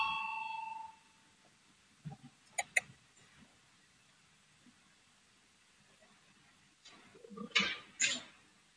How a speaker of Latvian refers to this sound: Lūdzu zvanu, balsosim par 173. deputāta Valaiņa priekšlikumu.